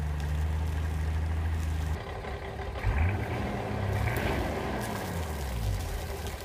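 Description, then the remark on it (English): A boat engine, just started to check what condition it is in, runs steadily with a loud low droning rumble and a harmonic hum, briefly shifting in pitch partway through before settling back into its continuous chug. “The boat was a runner when I bought it, and my first step was to try and get the engine started and see what condition it was in.”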